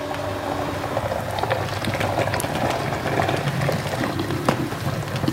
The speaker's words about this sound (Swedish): Och den glödande degeln lyfts upp i en gripklå och förs fram mot gjutskalen i sina trattar där 70 kilo glödhet bronsmassa ska hällas ner. Höjer upp, höjer upp, höjer upp.